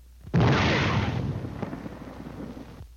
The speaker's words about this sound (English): This is the way it sounds to the soldier under fire. First, the shriek of the shell as it passes overhead. Listen.